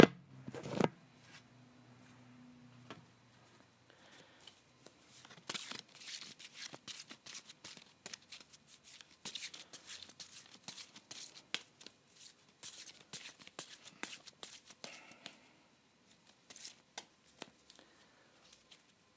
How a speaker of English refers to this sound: So as I'm about to start shuffling, please take that into consideration.